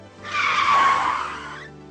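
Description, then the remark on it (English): A car's tires screech loudly in a single sustained squeal lasting under two seconds, rising to a peak and then fading, with no voices. “If the brain didn't do that, we would be unable to hear a car coming from behind and jump out of the way in time.”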